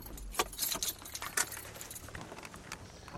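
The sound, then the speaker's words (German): Bottles in drink crates in a vehicle's cargo hold clink and rattle in irregular, jangling bursts over a low vehicle rumble as it leaves the road and crosses a mown mountain meadow to a stream, the clatter strongest early and then settling into lighter, scattered clinks. “Im Laderaum klappern Getränkekisten.”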